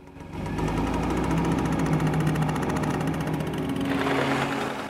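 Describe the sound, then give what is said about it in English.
A moped carrying a rider and a pillion passenger through narrow streets behind a dark blue Mercedes; its engine buzzes with a rapid, rattling pulse, holding a steady loud drone and shifting pitch slightly near the end, with no voices. “Following close behind is a moped driven by Ryan, with Layla riding Pillion behind him on the back.”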